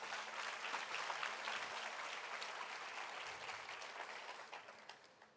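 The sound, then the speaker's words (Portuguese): A church audience applauds at the preacher's request, steadily for several seconds, a dense wash of many hands clapping at once that holds strong and then gradually thins toward the end. “Você pode aplaudir para isso?”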